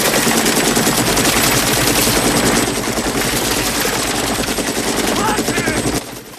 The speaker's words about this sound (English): He signals his gunner. Bullets riddle the river, sending plumes of water into the air.